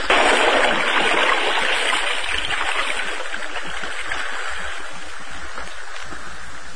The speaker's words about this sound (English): Now, fighting sword, vanish forever in swift water.